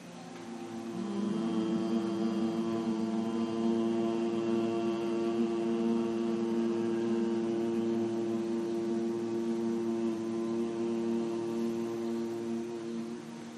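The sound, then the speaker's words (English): A single long, steady humming tone of Brahmari (humming bee) breath, one of three rounds of a breathing exercise, held on one low buzzing pitch for over thirteen seconds at an even moderate loudness, with no talking. “We'll do three rounds of the Brahmari, sound of the humming bee.”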